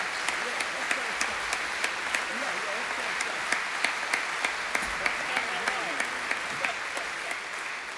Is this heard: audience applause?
yes